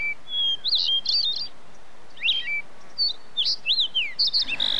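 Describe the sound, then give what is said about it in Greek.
A bird chirps in quick, high-pitched bursts of bright trills and short sweeping notes, repeating irregularly over a soft, steady background hiss with no voices. “Αχ, αυτό το πουλί.”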